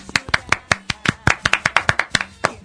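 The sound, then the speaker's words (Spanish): Quick, evenly spaced claps ring out in a steady rhythm, around sixteen sharp hand-claps in under three seconds, as the audience in the stands of a show claps along in time. “Ayúdenme, muchachos, vamos a cerrar la boca a todos esos que están ahí. Aplaudan todos.”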